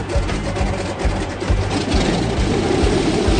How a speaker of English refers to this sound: The sea is getting so bad, Justin has to fire the engines just to keep the plane stable and upright.